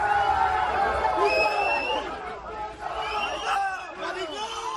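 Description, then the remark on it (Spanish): A crowd of university students shouts insults at a government minister as he leaves the building through the car park, many raised voices overlapping in a loud, continuous clamor with sharp rising yells cutting through the din. “y sabiendo que había un grupo a la salida, ha abandonado el edificio el ministro por la zona del aparcamiento, pero los jóvenes se han dado cuenta y se han trasladado hasta allí corriendo y han empezado a insultarle.”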